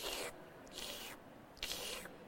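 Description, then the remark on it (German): Three airy, gurgling slurps through two drinking straws, each lasting about half a second with short pauses between, with no talking, as a girl and her grandfather loudly suck up hot chocolate topped with cream. “Rasch holt sie 2 Strohhalme. Nun saugen sie und schlürfen schön laut.”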